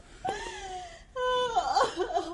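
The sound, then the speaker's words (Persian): A woman locked in a room cries in drawn-out, wavering wails that break into shaky, sobbing gasps, fairly loud, with no talking. “ببینم صدای گریه های قوت القلوب نیست؟”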